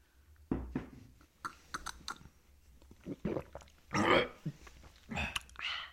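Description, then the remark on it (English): Several wet gulping and swallowing sounds as someone takes a drink, in quick succession, with smacking mouth noises between them and a louder gurgling gulp near the end. “A little drink gulp.”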